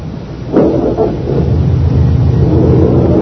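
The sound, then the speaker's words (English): A car engine turns over with a brief burst, then settles into a steady low rumble that swells slightly as the car pulls away in the rain. No one speaks. “I picked it up, put it in my apron pocket, rushed over to the other side of the car and got in.”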